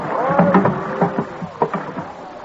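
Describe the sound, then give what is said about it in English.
William Penn's wooden boat drawing up to the dock at Dock Creek, Philadelphia, in early December 1699, with drawn-out creaks and groans of timber and several dull knocks over a steady watery background, with no one talking. “It is early December, and his boat is landing at Dock Creek.”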